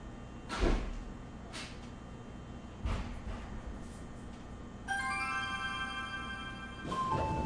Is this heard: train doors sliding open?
yes